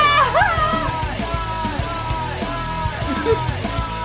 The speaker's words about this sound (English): The fucking echo.